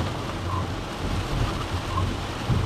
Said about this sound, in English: Oh yes, rain hard. We love that. I hope you guys can't hear that too much. And if you can, I'm sorry. But that is loud. Ow. But, what the heck was I talking about? It's raining. It was great. It starts pouring out of nowhere. We love that.